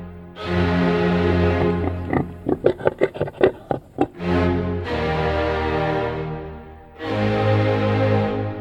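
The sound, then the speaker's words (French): Loud vocalizing of a phacomocher, a Provençal wild suid from around the village of Espigoule in the Var: a drawn-out droning squeal, then a quick run of short snorting grunts, followed by two more long, moaning calls with no talking. “Approchez-vous du phacomocher avec la prudence nécessaire”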